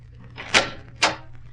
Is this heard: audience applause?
no